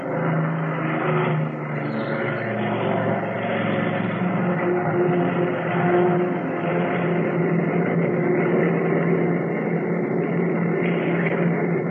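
The engines of a big plane roar steadily and loudly as it races down the runway on its takeoff run, a dense, continuous drone with a low rumble that holds at full power throughout, with no voices.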